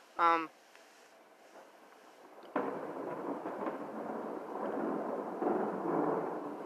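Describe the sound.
A short voice sounds briefly, then, with a flash of lightning, a sudden loud thunderclap breaks out and rolls into a long, sustained, powerful rumble that keeps going until the end.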